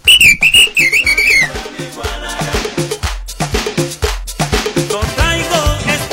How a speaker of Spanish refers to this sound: El ritmo de punta directamente, no de Francia, sino de Honduras. Póngase a bailar porque acuérdese que el baile es vida para el espíritu.